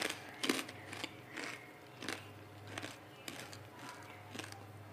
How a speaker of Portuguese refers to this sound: Cometi o erro de comer enquanto eu tô sozinho. E agora eu tenho que mastigar e falar.